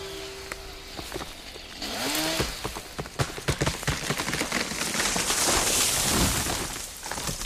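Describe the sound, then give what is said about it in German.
A steady engine-like drone gives way to low, bending groans of an old, diseased beech tree being felled, then a swelling rush of noise studded with sharp snaps and cracks as it falls to the ground. “Das Ächzen der fallenden Buche geht in ein bedrohliches Rauschen über.”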